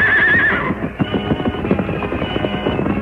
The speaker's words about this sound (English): Making every move count, the masked man swiftly loosened the reins of the outlaw's horses and sent them galloping away. Away with you! Get on there! Get going!